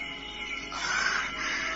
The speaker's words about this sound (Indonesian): Aku masih penasaran dengan suara-suara menakutkan itu. Aku yakin kalau di rumah ini ada siluman monyet. Karena suara-suara itu memang suara monyet.